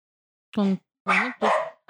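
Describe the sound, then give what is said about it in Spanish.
Three sharp, loud barks from pet dogs at home during a recording, spaced unevenly with short pauses between them, each bark bright and harmonic with no talking in between. “Sí, no estamos grabando de casa y esos son nuestros perros.”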